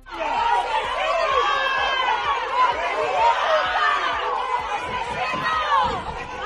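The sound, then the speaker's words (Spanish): A group of neighbours shouting "asesino" (murderer) angrily together at a man leaving the courts in Ejea, many raised voices overlapping in a loud, continuous clamor that keeps up for several seconds, with scattered thumps and shuffling underneath. “Así le increpaban a su salida de los juzgados de Ejea un grupo de vecinos al grito de asesino.”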